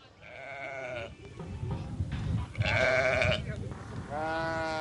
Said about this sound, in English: A flock of sheep and some scrawny goats huddle in a rough stone enclosure on this barren hillside.